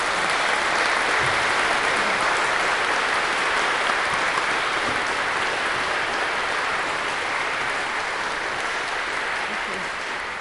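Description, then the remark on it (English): A church audience applauds steadily to welcome its confirmands, a dense wash of clapping from many hands that holds strong for about ten seconds and fades only slightly toward the end. “Let's welcome them with our applause to our congregation.”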